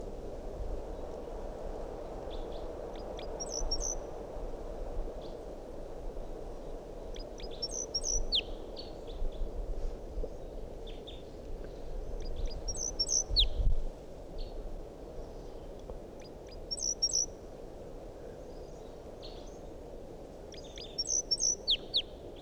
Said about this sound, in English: Still 8:02 and that wild bird is up in the big pine tree above the net. Song. That sounded like type 2 calls. Wild bird.